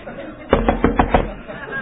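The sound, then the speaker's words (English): Four firm knocks on a door in quick, even succession, fairly loud, as Peter keeps knocking, standing alone against a quiet background with no talking. “So while they're in there arguing, he's still knocking.”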